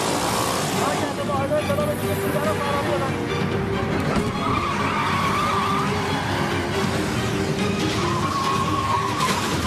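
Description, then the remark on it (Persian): A motorcycle's tires skid and squeal in long, rising screeches over a constant loud roar of engine and road noise as it crashes. A rougher, scraping skid returns near the end, with muffled voices underneath. “مرکز مستظر باشین، یکی از موتورها دچار سانحه شده.”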